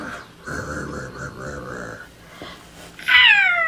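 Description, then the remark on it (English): A person does a playful vocal imitation of a roar: one sustained, growly, cat-like voiced sound lasting over a second, then a pause and a short, loud, high-pitched squealing sweep at the end. “Roar.”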